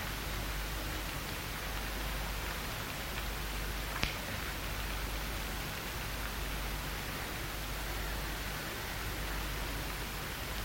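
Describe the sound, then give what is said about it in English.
Steady morning rain hisses evenly throughout, a dense wash of sound with a low rumble underneath and one brief tap partway through. No one speaks. “Accept this morning, this rain, with all the restrictions we will have today.”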